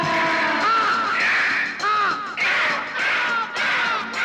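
A crow caws repeatedly in loud, harsh bursts, one call running into the next with only brief gaps between them.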